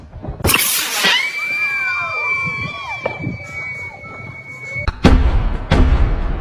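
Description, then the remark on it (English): Sharp neighborhood firework bangs crack outdoors, setting off car alarms wailing with a steady high tone and warbling sweeps, then more loud booming blasts near the end. “Neighborhood firework.”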